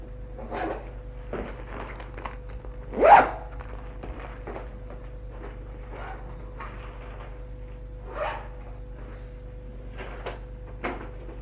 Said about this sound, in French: Ferme la valise.